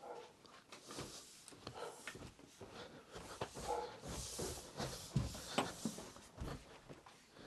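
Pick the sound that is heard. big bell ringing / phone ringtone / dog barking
dog barking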